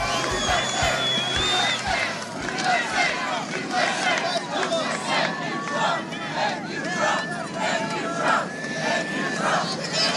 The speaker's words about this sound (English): Part of the crowd a little earlier as the president was getting ready to leave their Andrews Air Force Base for Florida.